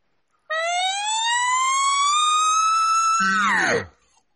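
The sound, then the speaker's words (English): A voice imitates a siren, a loud, steady rising wail for about three seconds that is cut off sharply and ends in a short, low guttural growl, like an elk bugle. “Now, and then in that same thing with the siren, take it to the top and chop it off and just use your voice.”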